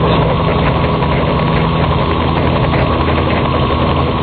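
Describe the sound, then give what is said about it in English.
Mr. Magoo's chopper motorcycle engine runs steadily with a loud, low, throbbing rumble that holds an even idle throughout, with no one speaking over it. “Yeah, you want to hear a different part of the chopper?”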